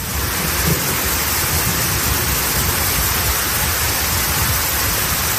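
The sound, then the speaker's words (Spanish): Heavy rain pours down in a dense, steady hiss, loud, with a low rumble of thunder underneath and no voices. “Once comunidades autónomas están en alerta amarilla hoy por ese riesgo de lluvias, también de tormentas.”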